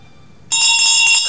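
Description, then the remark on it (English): A woman rings a handbell loudly over a sleeping girl's face in a dormitory, starting abruptly after a brief quiet moment, its bright metallic clang shaken rapidly in a continuous, shimmering peal with no voices. “A woman's ringing a bell over Jane's face.”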